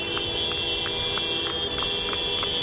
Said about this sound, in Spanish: Esta era en Madrid, pasando por delante del Ministerio de Agricultura, con la mano literalmente pegada al claxon del tractor.